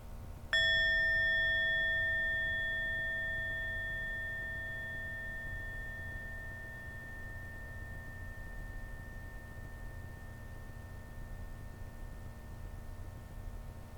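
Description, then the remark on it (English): A single meditation bell is struck once to mark a period of quiet breathing, ringing out with clear bright overtones that slowly fade over many seconds into a quiet background hum. No one speaks. “Can just relax and smile and be with our breath, and we can do that for the time that the bell sounds.”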